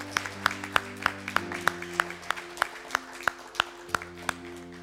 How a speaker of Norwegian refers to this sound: Skal vi gi en god applaus til de som tok imot Jesus i dag?